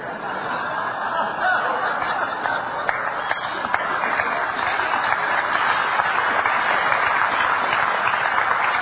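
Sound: half-hearted audience clapping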